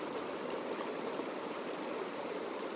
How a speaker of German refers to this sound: Vom Gletscher aus fließt der Rio Juncal ins Tal. Es ist einer der letzten sauberen Flüsse der Gegend und versorgt die tiefer gelegenen Ortschaften im Tal Aconcagua.